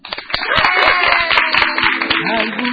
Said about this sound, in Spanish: Y quiero despedir la premier, ¿no?, como siempre hacemos, con un aplauso de viva.